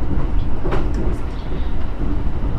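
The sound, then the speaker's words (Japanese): A JR East local commuter train bound for Chiba rolls steadily along the rails toward Makuhari Hongo station, its loud, continuous low rumble and rattle filling the space, with faint clatter rising briefly now and then. “この電車は各駅停車千葉行きです。”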